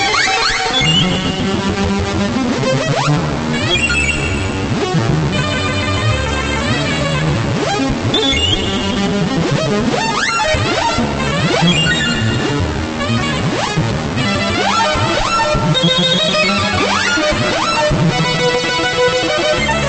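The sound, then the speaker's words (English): Dense, loud Lunetta synthesizer noise music: harsh buzzing tones, squealing pitch sweeps and clattering bursts pile up continuously without pause, with no voices. “Oh yes, Jazz Modulator ESP has guessed that it's a Lunetta, but that's not good enough, we need the author.”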